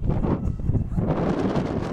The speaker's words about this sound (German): Wind in meine Fresse.